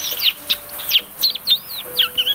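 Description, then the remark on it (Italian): A person whistles an imitation of birds chirping: a rapid run of short, high, warbling tweets and trills, clear, with no talking over it. “Fischio uccellini.”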